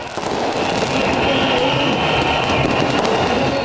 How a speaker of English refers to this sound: Last week, Wednesday, celebration in Tahrir Square as the crowds celebrated the ouster of President Mohamed Morsi.